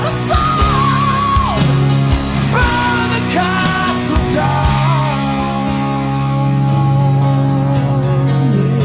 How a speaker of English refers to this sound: Screams without.